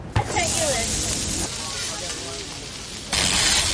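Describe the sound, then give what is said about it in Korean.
Food sizzles on a hot griddle of a food truck at a farmers market in downtown Baltimore, in a steady, crackling hiss that swells louder at the start and again near the end, with faint murmuring voices in the background. “지글지글 음식이 요리되는 푸드트럭 옆에 자리 잡은 콘서트 트럭.”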